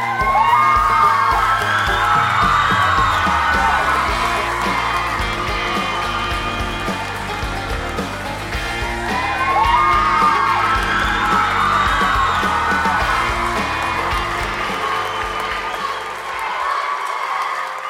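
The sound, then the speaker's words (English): A large crowd cheers loudly and continuously after a hip-shaking, bouncy stage number to a country hip-hop mashup, with high whoops and yells rising in waves over a steady roar, the noise swelling twice before easing off at the end. “does a hip-shaking bouncy number to a country hip-hop mashup, and the crowd goes wild.”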